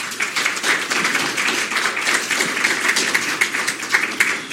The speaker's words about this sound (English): So again, we thank all of the candidates for coming tonight. Let's give them applause for all coming.